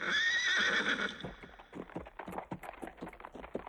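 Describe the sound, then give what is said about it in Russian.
A horse lets out a loud, wavering whinny, then its hooves clop on a hard surface in a quick, steady rhythm, with no one talking. “Били копыта, пели будто гриб, грабь, гроб, груб.”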